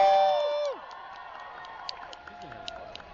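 A live audience cheers and whoops with scattered claps as a guest walks out in front of the crowd, just as a musical theme cuts off, the crowd noise settling into a steady, moderate roar.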